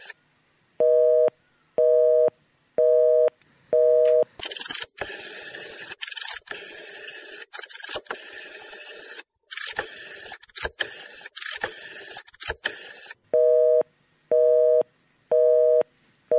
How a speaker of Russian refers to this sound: Звонили в ЛДПР по двум номерам, по обоим заняты.